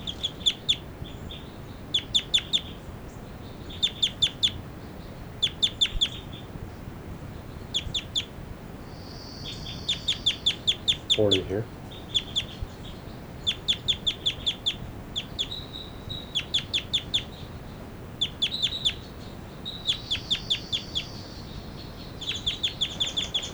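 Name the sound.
bird giving flight calls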